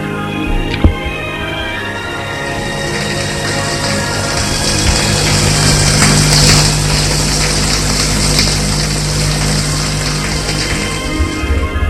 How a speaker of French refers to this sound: Se déshabille et prend sa douche.